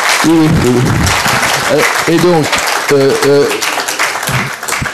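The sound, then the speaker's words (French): A crowd applauds loudly and steadily for Professor Percebois at a conference organized by the UTB and the SFEN, a dense wash of clapping while voices call out or speak in short bursts over the ovation. “Bien, eh bien, écoutez, on applaudit très fort.”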